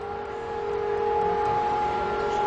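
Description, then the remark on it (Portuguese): A civil defense siren sounds across Israel at 10 a.m. on a Tuesday for Holocaust Remembrance Day, holding a steady, unbroken tone at a constant pitch, loud and sustained throughout, with a faint rumble of background noise beneath it and no voices. “Às 10 horas da manhã desta terça-feira, horário de Tel Aviv, em todo o país, as sirenes começaram a soar.”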